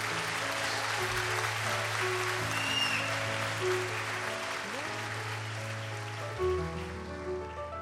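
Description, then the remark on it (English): An audience claps steadily for American soldiers for the full length, a dense, even patter of many hands that never lets up, with sustained tones of singing or music humming underneath. “So please, let's pray and sing for all those American soldiers who are fighting wherever they are, and you can clap for them too.”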